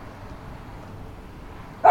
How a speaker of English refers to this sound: Sorry about my dog barking.